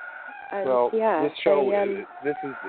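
Several chickens, all standing and looking at a person, cluck and squawk together in a loud, warbling burst of overlapping calls, ending with a few short, choppy clucks.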